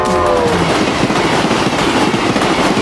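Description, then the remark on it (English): A train rumbles loudly and steadily along the tracks in Prince George, British Columbia, with dense rhythmic clacking throughout and a brief horn-like tone near the start, without any voices. “Prince George residents can identify a familiar sound scraping through the air multiple times a day in our community as trains clack across a landscape and horns blast their alert on the edge of town.”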